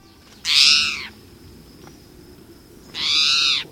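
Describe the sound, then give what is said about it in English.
Two drawn-out, raspy mewing calls from a spotted towhee, each under a second long and separated by a pause, sounding much like a cat's meow against a faint outdoor background. “This feline-sounding call comes from a common resident bird, the spotted towhee.”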